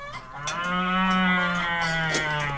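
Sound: cow mooing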